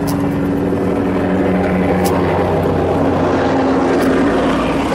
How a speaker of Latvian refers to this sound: Krievijas izlūk lidmašīnu ļoti zemā lidojumā, tā ka uz korpusa saskatāmas tās sarkanās zvaigznes.